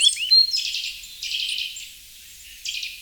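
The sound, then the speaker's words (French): A nuthatch's alarm call, given when agitated: rapid, high-pitched tuit notes fired off in quick machine-gun bursts, three clusters, with no voices. “Revoilà le tuit, tuit, tuit, tuit. Mais délivré à la vitesse d'une mitraillette.”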